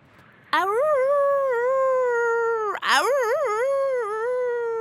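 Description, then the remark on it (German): A loud howl in two long wavering notes, the first steady and the second rising and dipping, sounding like a voice imitating a husky's howl with no talking over it. “Ach, Papa, das Heulen bei Huskies ist gar nicht so schlimm.”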